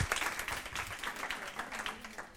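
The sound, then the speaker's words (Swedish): An audience applauds, a dense, steady patter of many hands clapping at once, moderately loud and continuous without a clear rhythm, with a faint murmur of voices underneath. “En stor applåd.”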